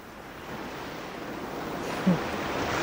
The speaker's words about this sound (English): Just Terry and me and the rolling, crashing sea and a few feathers.